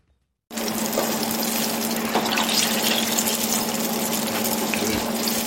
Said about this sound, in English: The eggplant strips are sizzling in oil at Li Ho Fook, a modern Chinese restaurant in Melbourne.